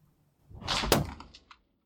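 A single sharp gunshot bang from a gun that has been cocked with the safety released cracks out of a brief rushing swell, then fades in a short echoing tail, followed by a small click. A sound level meter reads 125.1 dB. No one speaks.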